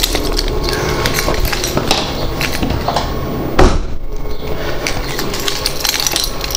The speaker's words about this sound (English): That's just the boot lid. There we go. It has an electronic boot, it's a convertible, and it has an electronic boot lid, which when opened, I can find it. Yes, which when opened makes this weird noise.